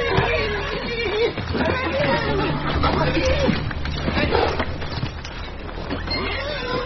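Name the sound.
horse neighing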